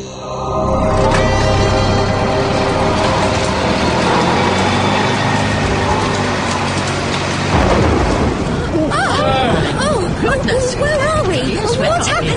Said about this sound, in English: Just a storm, dear.